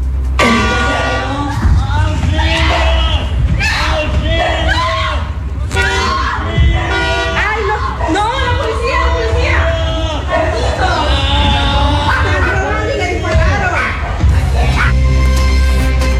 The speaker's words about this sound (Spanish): Impactante y elocuente es el audio, ya que ustedes escuchaban los gritos de auxilio que estaba solicitando este adulto mayor, como lo decíamos, un hombre de 98 años, que no les importó para nada a los ladrones con el fin de obtener su objetivo